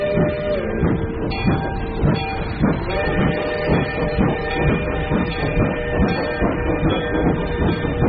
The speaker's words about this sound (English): The special train sent by the railroad company made a swift, unbroken journey away from the land of coal, iron, clank, and roar.